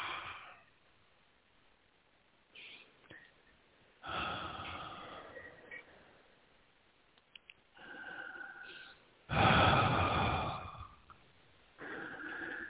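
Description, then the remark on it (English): Slow, deep breaths drawn in and let out several times, each a broad airy rush with quiet pauses between, fairly loud, with no talking. “And I'll breathe with you.”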